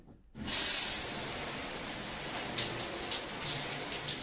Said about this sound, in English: All right, let's jump into the shower.